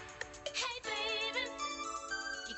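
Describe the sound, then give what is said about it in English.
A bright, ringing bell-like synthesizer keyboard plays a bending melodic line, bold and steady, with shimmering sustained tones and no voices. “There's that ringing bell-like synthesizer sound again.”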